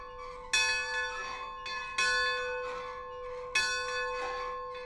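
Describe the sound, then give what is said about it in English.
A large bell at the Railroad Museum in Wilmington rings three times at an unhurried, steady pace, each strike bright and metallic with a long ringing tone that lingers between hits. No voices are heard. “Or maybe that's just the bell at the Railroad Museum.”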